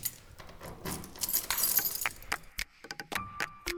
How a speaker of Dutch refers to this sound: Even kijken hoor, de sleutel. Oh jongens, dat is zo'n grote sleutelbos.